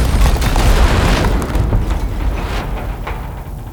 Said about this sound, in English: You might think something like an explosion is recorded by just that, an explosion, right? But this is what a raw explosion sounds like. And then here's what a movie explosion sounds like.